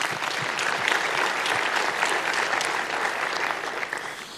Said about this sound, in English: But besides that, let's applaud MIO for their kind intention to give a prize.